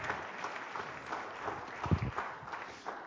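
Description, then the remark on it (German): A crowd at a church service applauds steadily to welcome the leaders of a Bible study group, a dense wash of many hands clapping at an even level with no voices over it, a slightly louder burst near the middle. “Ihnen gibt auch einen Applaus.”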